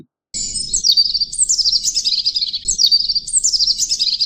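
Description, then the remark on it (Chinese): A small bird hopping from branch to branch in a tree sings a bright, rapid chirping song in repeated descending phrases, loud, continuing steadily with no voices present. “呢只雀仔向呢个树枝跳去嗰个树枝， 跳来跳去，一路跳一路喺度吱吱喳喳唱歌啊！”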